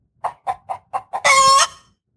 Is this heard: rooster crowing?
yes